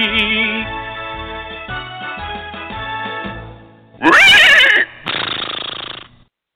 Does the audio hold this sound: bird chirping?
no